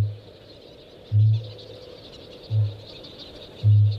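A frog, inflated like a football, gives its deep, low booming mating call in a forest, repeating four times in short, resonant pulses about a second apart, loud over a steady background hum of insects or night ambience.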